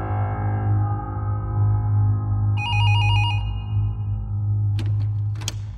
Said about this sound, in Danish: Senere samme aften ringer telefonen hos Rigspolitiets rejsehold